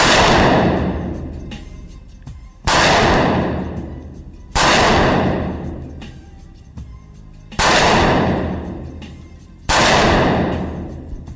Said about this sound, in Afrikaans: Dis 'n 223. So kom ons kyk hoe dit gaan. Hoeveel meter? 25 meter skiet.